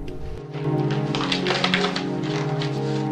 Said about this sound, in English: He carefully pushes the front door shut with his foot and starts to go through the mail, pulling Rose's crumpled letter from its envelope.